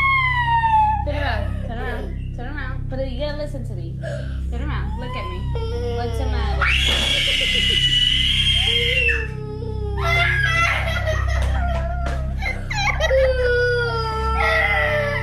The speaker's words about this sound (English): But if that scream doesn't send shivers through your spine, I don't know what would. Do you have goosebumps? I mean, listeners do. That's terrifying.